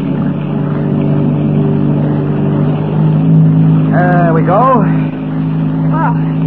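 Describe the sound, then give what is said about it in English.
A motorboat engine drones loudly and steadily as the boat is cast off at dawn and nosed out of a cove by an island, holding a constant low hum throughout, while a voice briefly speaks over it near the end. “We don't want Forrest to see us stealing his boat.”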